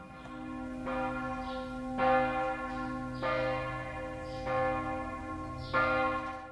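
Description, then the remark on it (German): Church bells of the Catholic parish church St. Josef in Basel ring in a steady, overlapping peal, each stroke ringing out with a long humming sustain, with no voices present. “macht das Fenster von ihrer Wohnung auf und hört die Kirchenglocken von der katholischen Pfarrkirche St.”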